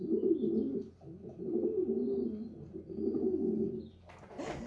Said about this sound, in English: Hey, Google, what is the sound the little bird called a dove makes? This is a pigeon, also known as a dove.